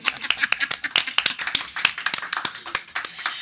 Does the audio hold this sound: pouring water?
no